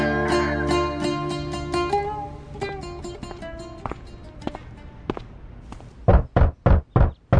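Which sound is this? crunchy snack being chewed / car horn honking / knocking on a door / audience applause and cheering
knocking on a door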